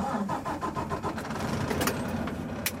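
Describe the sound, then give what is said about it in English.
A snowplow truck with plows on the front and side, driven by a woman on a plowing crew in Keene, New York, cranks in a garage with a rapid rhythmic chugging, then catches and settles into a steady rumbling run, with no voices, after an overnight storm. “She drives out of the garage and up into the mountains. This truck has a plow on the front and one on the side to plow the shoulder.”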